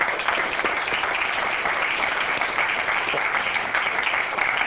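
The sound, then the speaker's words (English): Steady applause from a crowd, dense overlapping claps forming a continuous bright crackle at a constant, fairly loud level throughout, with no voices audible. “I'm not supposed to clap for myself.”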